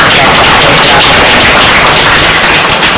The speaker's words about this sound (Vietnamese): Ân huệ này chúng con vô cùng cảm ơn cha một lần nữa, một tràng vỗ tay nữa.